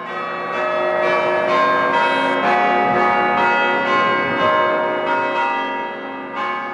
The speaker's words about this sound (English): This time period, about 20 years after its founding, also brought the construction of the Holden Observatory, and the Krauss chimes rang for the first time before the building was ever completed.